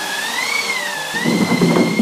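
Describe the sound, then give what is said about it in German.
A theatre wind machine, a wooden cylinder with canvas stretched over it being turned, gives a steady, airy whoosh with a thin whistling tone that gently sways in pitch, turning rougher and slightly louder in its second half. No one speaks. “Und wenn man den Zylinder dreht, dann hört man dieses windähnliche Geräusch.”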